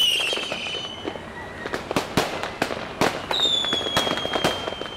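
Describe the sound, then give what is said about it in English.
Fireworks crackle and bang in a rapid, irregular string of sharp pops, with high whistling streaks rising at the start and again midway, all loud. “I'll arrange a celebration. It's not a smile. Shoot off fireworks!”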